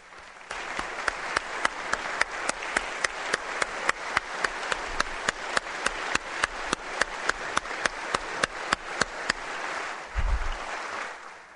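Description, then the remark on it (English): A crowd applauds for about ten seconds, a dense wash of clapping with sharper claps punching through in a steady, almost rhythmic beat before it fades out. “please stand so that we can cheer for your hard work and for your bright future.”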